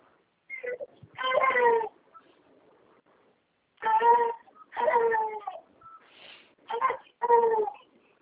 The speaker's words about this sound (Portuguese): Tá com o bebezinho chorando?